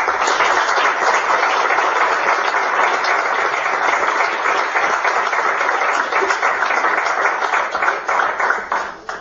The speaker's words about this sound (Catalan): Segur que em deixo a moltes i a moltes persones, però a tots i a totes un sincer aplaudiment d'agraïment.